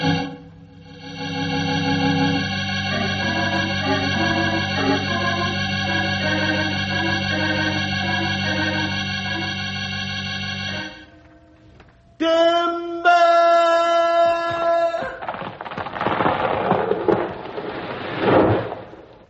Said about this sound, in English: The tree hit the ground so hard it knocked a big flame of fire out of it.